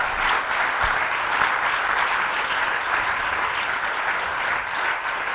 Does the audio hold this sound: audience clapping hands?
yes